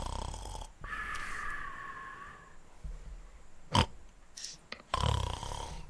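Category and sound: vocal imitation, voice imitating snoring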